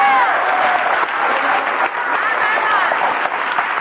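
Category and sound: crowd, audience clapping in praise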